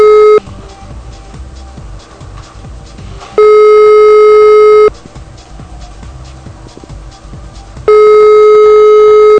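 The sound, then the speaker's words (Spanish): A telephone ringback tone repeats as a call to Mr. Ricardo Julián Barbosa Rojas goes unanswered: long steady electronic tones roughly every few seconds, separated by pauses filled with faint line noise, with no voice picking up. “Parece que nadie contesta el teléfono.”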